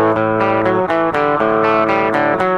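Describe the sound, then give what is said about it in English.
A lightly overdriven Les Paul Custom electric guitar, plugged in directly rather than through an amp, plays a steady run of picked notes and chords, each attack ringing into the next, loud with no voices. “It just has that grit to make it do something.”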